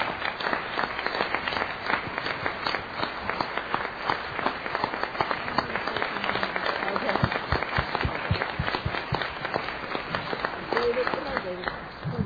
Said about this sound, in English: really think that we need to recognize that the people that did all the transportation, the harmony, the food, the signs, and the subscribers coming out to the meeting is spectacular. And I think that you all deserve a big hand of applause for that.